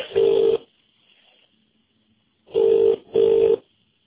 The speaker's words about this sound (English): That's it, ringing for you now.